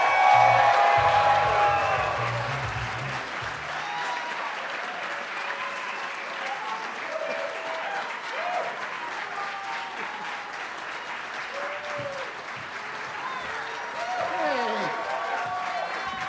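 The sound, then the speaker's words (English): A crowd applauds steadily for about sixteen seconds, a dense wash of clapping with scattered cheers and whoops rising over it, loudest at the start and swelling again near the end, as a festival comedy show audience welcomes four comedians. “Please give it up for”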